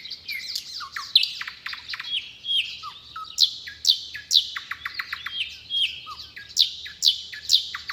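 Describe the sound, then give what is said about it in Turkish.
A small bird named Filiz sings in a lively, continuous stream of bright chirps and quick trills, repeating short phrases with barely a pause, alone with no voices. “Filiz, ne güzel şakıyorsun kızım.”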